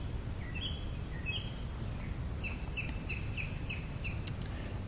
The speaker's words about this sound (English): The bird chirps. The bird chirps in those wave patterns. They follow me wherever I go.